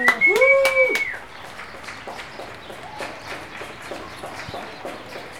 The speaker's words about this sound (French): Un travail sonore à partir de bandes magnétiques. Plus communément appelées cassettes audio.